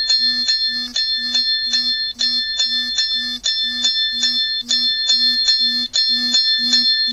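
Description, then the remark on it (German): A three-minute timer alarm rings loudly and continuously as the time runs out, a rapid bell-like trill pulsing in steady bursts about every half second with a low buzzing vibration underneath, with no one talking. “So, er vibriert und klingelt ganz heftig. Timer, drei Minuten vergangen.”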